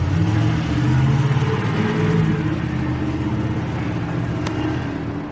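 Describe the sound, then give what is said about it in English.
A heavy Don Mud Construction truck's engine roars and revs beside a house, a steady low rumble that begins to fade slightly at the end as the truck speeds off in a hurry. “Then, all of a sudden, the truck speeds off in a hurry.”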